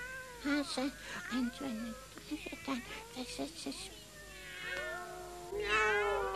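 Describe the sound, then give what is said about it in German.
Several cats meow and yowl in quick succession, overlapping wails rising and falling, ending in a long drawn-out caterwaul. The cries are fairly loud, with no talking. “Wenn nun alle Katzen in unsere Laube kommen.”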